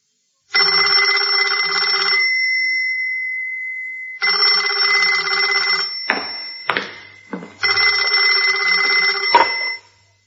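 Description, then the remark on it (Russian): A loud telephone bell in a workshop rings in three long, insistent bursts separated by brief pauses, with a few sharp clicks or knocks during the middle ring. No one speaks. “Где здесь телефон?”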